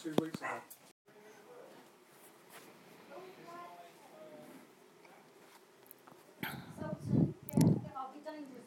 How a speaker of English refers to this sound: That's Ellie's barking at something. But no one come in. But Ellie's barking at something.